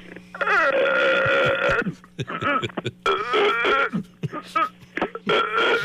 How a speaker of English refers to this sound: we made the burping contest today. Here's somebody who couldn't do it.